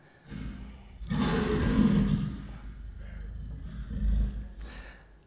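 A lion roars with a deep, rumbling growl that swells and holds for several seconds, then surges again more briefly near the end. It's fairly loud, with no talking.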